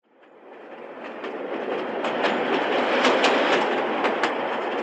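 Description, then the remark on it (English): A train rumbles steadily over the rails as a rapid, irregular string of sharp cracks bursts out from track detonators, lots of little explosive devices stretched out along the track, over the rolling noise. No one speaks. “In this case, safe meaning lots of little explosive devices stretched out along a train track.”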